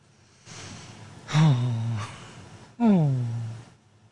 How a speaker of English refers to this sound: And that was what that gasp was. I was talking along, you know, and Pat Toomey, yada, yada, yada. And... You know, did a double take and jumped out of my skin.